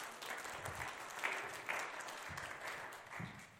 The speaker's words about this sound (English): Can you guys welcome Elijah? Give him a round of applause.